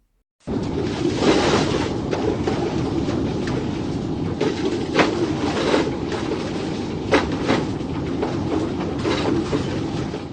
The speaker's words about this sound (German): Mit einem großen Wohnmobil auf diesen super ruckeligen Straßen zu fahren. Es war wirklich zum Teil ohrenbetäubend.